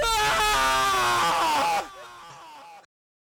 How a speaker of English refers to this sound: Sam lingers on the ground, regaining control of his breathing and clutching his leg. Blood begins to stream down from a forehead laceration. With all the energy he can muster, Sam lets out a rageful yell.